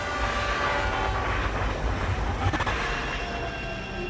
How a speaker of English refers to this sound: And I am seeing maybe a railroad. Like, I'm hearing that, so I don't know if it was a train accident.